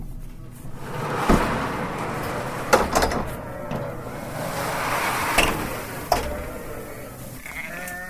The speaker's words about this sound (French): Allez, on ouvre aux portes aux brebis, direction donc la prairie.